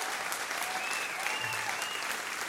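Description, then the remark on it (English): A round of applause fills the space: dense, steady clapping from a crowd, sustained at an even level throughout with no pauses or voices rising above it. “Let me give a round of applause to those three singles.”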